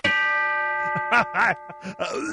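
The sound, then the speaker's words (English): A bell is struck once to start a favorite food game and rings out clearly, its bright sustained tone lingering and slowly fading while people talk over it in short bursts. “Where's the bell you have? Do you have the bell?”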